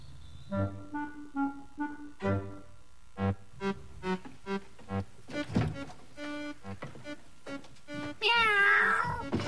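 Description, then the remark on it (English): A cat meows repeatedly in a quick series of short, clear calls, ending in a louder, drawn-out wavering yowl. “Are you ready to be a good kitty?”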